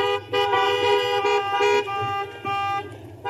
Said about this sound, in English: Can I get one last honk from the cars?